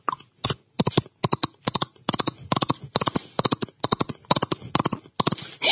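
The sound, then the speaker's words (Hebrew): A medical clown from Beitar Illit, a Guinness world record holder for animal sounds, imitates a galloping horse with his mouth, making quick, rhythmic clusters of sharp clicks like hoofbeats, fairly loud, repeating steadily for several seconds with no talking. “סוס, אתה יודע לעשות סוס? סוס דוהר.”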